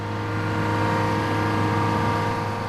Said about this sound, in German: Genau dafür braucht es eben die Platten, die ganz feine Vibrationen auslösen. Lärm macht dabei vor allem den Dieselmotor.